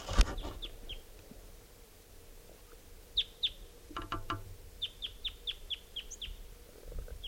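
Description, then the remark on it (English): A wild type 2 male bird sings alone, recorded at 11:03 a.m., giving short, high, sharp notes: a few scattered chirps early on, then a steady run of about seven evenly spaced, fairly loud notes toward the end. “and there's a wild type 2 male here who's in song.”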